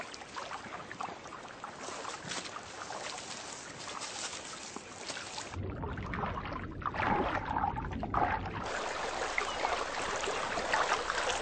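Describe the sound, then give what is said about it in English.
Running water trickles and splashes steadily through a gap in a beaver dam of sticks, a continuous burbling that grows fuller and heavier midway before settling back to a lighter flow. “The sound of running water is their stimulus to shore up gaps with timber and plug leaks with mud.”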